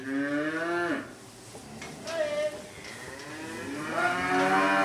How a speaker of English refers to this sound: gives some grain to his beef cattle.